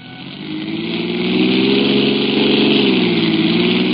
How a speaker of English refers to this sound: I pressed the accelerator to the floor, and only seconds behind the ambulance pulled up at City Hospital.